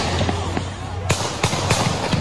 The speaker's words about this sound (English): And you hear all the gunshots. This is astounding. This is in Kenosha, Wisconsin, last night. And who's ever shooting the video is still shooting the video.